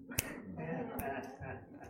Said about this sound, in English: Young people, can't even snap my fingers anymore.